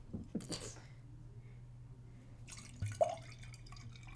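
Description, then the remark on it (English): Rosé wine is poured from a bottle into a glass: a few quiet splashes and drips over a low steady hum, with a brief burst of liquid near the end. “Ooh, I haven't had rosé in a long time. That is so yummy. You want a refill? Wine break.”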